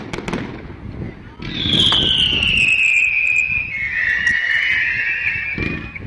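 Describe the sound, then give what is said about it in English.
Fireworks display with aerial shells bursting in the sky: several sharp pops and crackles, then a long, loud whistling shell that slowly slides down in pitch, all over a steady low rumble. “The crowd following its trail into the sky, holding its collective breath until the shells burst into luminous flowers.”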